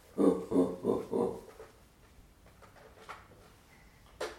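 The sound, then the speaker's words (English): A child imitates a monkey with four quick, rhythmic hooting calls, followed by a few seconds of quiet background noise and a brief sharp sound at the end. “Tell Daddy what the monkey does. Monkey goes.”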